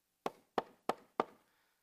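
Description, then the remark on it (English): Four firm knocks on a door by a local baker, evenly spaced in a steady rhythm, each sharp with a short resonant decay, and no voices around them. “the door, a sound of knocking.”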